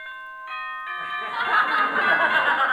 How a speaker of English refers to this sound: Okay, killer, it's your big moment. Here's the bell for the first round.